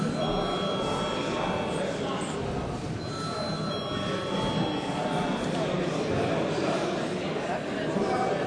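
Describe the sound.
A parliament voting bell, called for just before a vote on a draft decision, rings steadily for several seconds, a loud, continuous metallic ringing that stays even throughout, with a low murmur of voices underneath.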